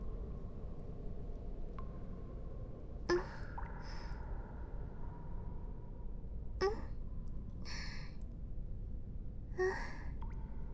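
A drawn-out yawn heard as a few soft, breathy exhalations and gasps spaced several seconds apart, over a steady low rumbling background with no talking.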